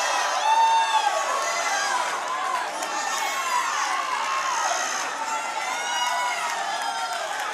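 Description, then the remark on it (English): A large crowd hollers and screams continuously, many voices overlapping in excited, high-pitched shouts at a steady, loud level without a break. “Right on and holler. I don't care. Holler. Right on and scream.”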